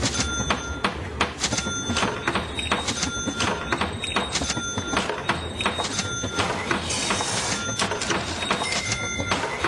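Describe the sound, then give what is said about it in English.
A copy machine runs steadily, its busy mechanical whir broken by rapid, repeated clicks and clacks as pages feed through, with no one speaking. “Staples Copy and Print knows you need to promote your business.”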